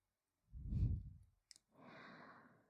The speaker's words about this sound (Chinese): 姐姐像这样跨坐在你的腿上，和你面对面，是不是能感受到姐姐的呼吸声？